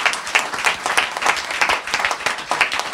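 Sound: applause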